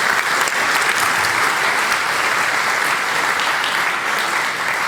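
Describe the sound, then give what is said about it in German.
Sustained audience applause at the GPN for a performance, a dense, steady crackle of many hands clapping at an even loudness for the full five seconds, with no voices standing out. “Also erstmal Applaus für Wandox für diese tolle Performance.”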